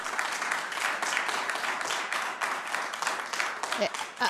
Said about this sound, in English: I know that we're here in support of each other, so please just keep the clapping to a minimum. That takes time away from the agenda, and we do have a full agenda.